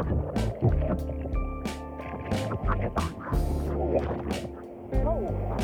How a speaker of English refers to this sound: So I just paddled out into the light, generally kind of all around freaked out, but I'm happy to see the boats out there.